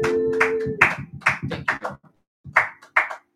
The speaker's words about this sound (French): Ma soeur, mon frère, applaudis pour le Seigneur Jésus. Applaudis, applaudis, applaudis, applaudis, applaudis, applaudis, applaudis, applaudis.